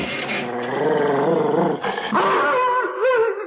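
A dog named Kim growls loudly as he is being brought inside, a continuous, rumbling, protesting snarl that wavers in pitch for several seconds, with a brief break midway. No one speaks.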